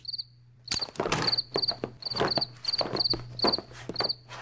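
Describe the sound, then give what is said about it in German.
A cricket chirps in short, steady bursts indoors while footsteps and shuffling thumps move around the room over a low background hum. “du hast doch vorhin gesagt, eine Grille im Zimmer bedeutet Glück, hm?”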